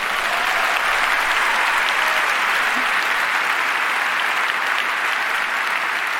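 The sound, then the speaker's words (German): A crowd claps steadily for several seconds, a dense, even wash of applause at constant loudness with no voices on top. “Aber ganz ehrlich, das könnte jetzt mal ein Applaus für die Bahn wert sein, weil das ist sportlich.”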